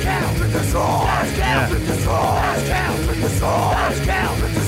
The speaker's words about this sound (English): Keep listening. Great. That's me screaming.